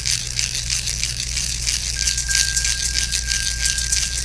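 A hand rattle shaken continuously in a fast, steady rhythm, producing a bright, dense hiss of small clattering beads with no pauses, alone and fairly loud, alongside a low steady hum and a thin faint tone.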